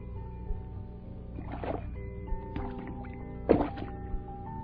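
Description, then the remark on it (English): Water splashes and plops in a few short bursts as a frog jumps into the water and dives down beneath the surface, over a steady humming tonal background. “He's jumped into the water. He's diving down, down.”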